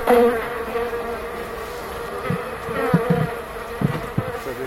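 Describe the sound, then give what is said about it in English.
A dense, steady hum of many bees buzzing in Greece, recorded by Rob Kessler: a continuous droning swarm with individual insects flaring louder now and then as they pass. “This buzzing sound was installed in a wooden hive in the handkerchief tree in the Botanic Gardens.”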